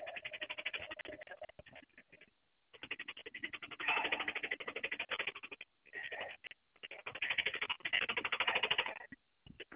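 A car transmission clicking in neutral: a rapid, steady rattle of clicks coming in several bursts with short pauses between, fairly loud, with no one talking.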